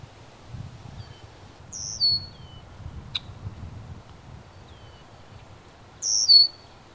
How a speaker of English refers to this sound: That is a red-winged blackbird. Never heard them do that before.